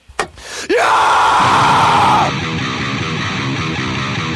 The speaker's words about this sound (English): Give me a scream